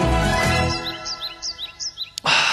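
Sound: birds chirping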